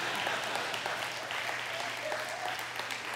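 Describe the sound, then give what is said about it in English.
Steady audience applause fills the whole stretch, a dense wash of clapping hands at an even, fairly loud level, with faint voices and a few cheers mixed in beneath it. “You better clap for them people, boy.”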